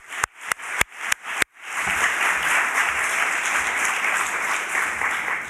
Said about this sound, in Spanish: Se proyecta dentro de este especial premio Donostia y tenemos con nosotros también a su director, así que por favor un aplauso para Josep Capotondi, que se va a sumar a la rueda de prensa.